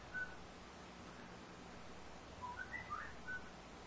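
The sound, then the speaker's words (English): A pet bird whistles faintly over a steady background hiss: one short note early on, then a quick cluster of several chirpy whistles toward the end. No one speaks. “I think the bird got out of your bird cage over there.”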